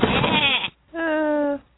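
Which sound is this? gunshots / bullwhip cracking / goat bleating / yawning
goat bleating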